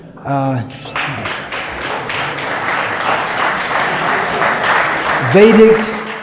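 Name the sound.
audience clapping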